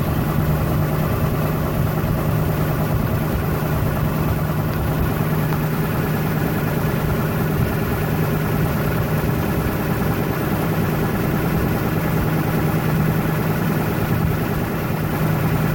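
A car engine idles steadily on high idle while warming up, a continuous low rumble with a constant hum and faint mechanical vibration, no voices.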